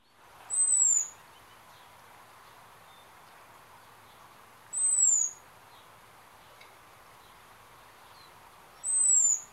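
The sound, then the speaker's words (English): A robin's thin, high seet alarm call repeats three times at long, even gaps, each a brief descending whistle standing alone over a faint steady background hiss. “I don't know if you've heard that, but I think Trina's got a call that relates to the sea call, I think it's called.”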